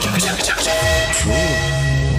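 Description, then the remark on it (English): A train whistle sounds in a long, steady, horn-like blast, its tone wavering and bending in pitch partway through, with a faint voice-like murmur mixed underneath. “What's that? I think that's the Rift Train.”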